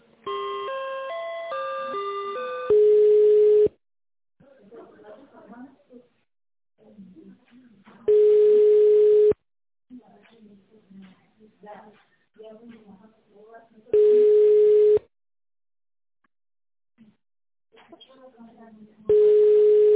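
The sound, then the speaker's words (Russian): A short melodic tone sequence opens, followed by a loud, steady single-pitched busy beep that repeats three more times at regular intervals as a phone call to a company's economist fails to connect, with quiet murmured speech in the gaps between beeps. “Алло, видимо, не получилось соединиться.”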